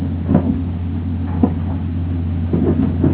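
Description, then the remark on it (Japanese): Steady low rumble and hum inside a moving carriage of the Express Rishiri train nearing its terminus, Wakkanai, with a few soft knocks and clatters from the tracks at irregular intervals, no voices. “まもなく終点稚内です。降りの際、足元にご注意いただきますよう、お願いいたします。”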